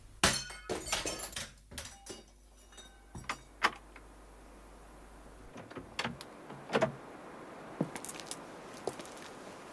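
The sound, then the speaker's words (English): A plaster bust of Napoleon smashes against a garden wall with a sharp crash, followed by scattered clattering of falling fragments and a few later knocks of debris settling. The sound is fairly loud, with no voices. “The bust was smashed against the garden wall.”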